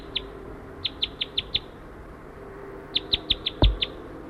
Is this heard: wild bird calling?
yes